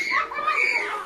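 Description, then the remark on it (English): A short burst of children's voices shrieking and shouting together, high-pitched and continuous, a lively playground din that stays fairly loud for about a second. “A bunch of kids.”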